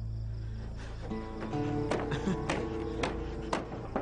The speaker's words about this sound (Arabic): ماذا هناك؟ لما تقرع الباب هكذا؟ لما تأخرت حتى تفتح؟